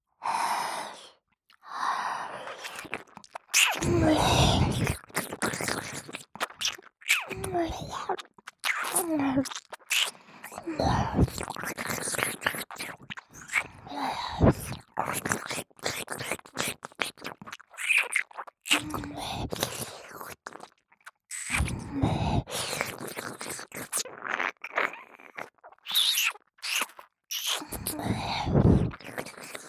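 Wet mouth sounds of ear-eating ASMR: steady, intense licking, smacking and nibbling bursts with soft breaths in between, continuing without pause for the whole stretch, intimate.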